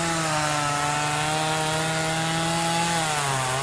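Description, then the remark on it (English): A chainsaw roars steadily and loudly while cutting broken-off trees and storm debris in central Ohio the day after storms, as temperatures rise; its engine holds a constant buzzing pitch, then dips slightly near the end. No voices are heard. “Chainsaws and chippers were roaring while temperatures were rising.”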